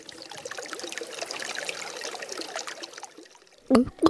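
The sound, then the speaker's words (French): Tap water runs in a steady trickle for a few seconds, then cuts off, followed by two short, louder gulping sounds as someone drinks. “Bah quoi, j'ai soif, alors je bois.”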